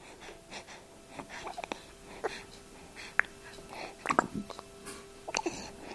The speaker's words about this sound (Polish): Słychać, jak oddycha szybciej.